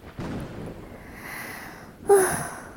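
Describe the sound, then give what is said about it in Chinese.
Heavy, breathy panting after running through sudden rain into a shopping mall: ragged rushes of air in and out, ending in a sharper, louder gasp with a slight voiced edge. “哎呦喂，你慢点喘气，深呼吸。”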